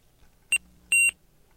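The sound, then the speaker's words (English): Two electronic beeps from a player powering off after its down key is pressed and held, a short chirp followed by a longer tone, clear with no one talking. “You will then hear a beep just before powering off.”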